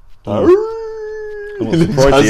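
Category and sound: animal, puppy howling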